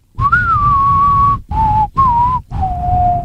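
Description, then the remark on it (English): Someone whistles a spaghetti Western film theme melody, four clear sustained notes separated by short breaths, the first long and gently wavering, over a faint rumbling background. “Its theme song has a whistle.”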